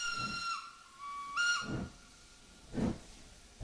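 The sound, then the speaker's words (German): A steam locomotive whistle sounds twice, steady harmonic blasts with a dip in pitch, while bursts of steam hiss and chuff in the background; one of two steam locomotives hauling a train along the Baghdad Railway line through the highlands of Turkey in 2000. “Ja, also wir sind ein Stück weit auf der Strecke der Bagdadbahn gefahren mit zwei Dampflokomotiven.”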